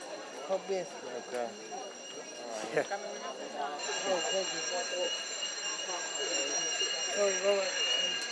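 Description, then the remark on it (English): A building fire alarm blares with a steady, continuous high-pitched tone that grows louder partway through, with an announcement saying the fire alarm has been activated and to evacuate the area immediately, while people talk over it. “The fire alarm has been activated. Evacuate the area immediately.”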